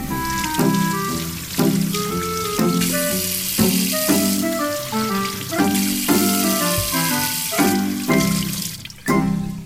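Steady pouring water, as a pot of water is set on the fire to cook oatmeal, runs continuously under a rhythmic melodic music track, the splashy hiss staying even throughout.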